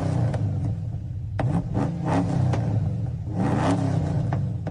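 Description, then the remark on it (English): A powerful, throaty engine rumbles and revs repeatedly, its low growl swelling in several loud bursts with a whirring rise, continuous with no voices. “Or perhaps it's this kind of a little bit more muscular sounding engine.”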